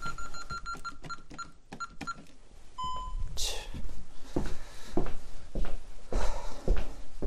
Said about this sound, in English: Sorry about that. I don't know why, but that alarm has a mind of its own. It goes off whenever it wants.